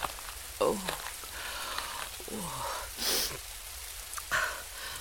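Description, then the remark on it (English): Steady rain hisses outside a nightclub, a continuous wash of drops on hard surfaces, broken by a few strained breaths and gasps. “I'm standing in the rain outside a nightclub next to a corpse, and I'm starting to think that this is...”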